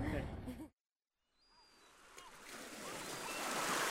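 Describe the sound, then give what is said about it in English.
A voice speaks briefly, then after a short silence the rush of sea waves swells in, a steady broad wash growing louder as surf rolls onto the shore. “my Skellig's boatman, the sea has been the soundtrack to his life.”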